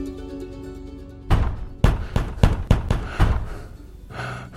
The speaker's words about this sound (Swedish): Snälla du, sluta banka på dörren. Du skrämmer barnen,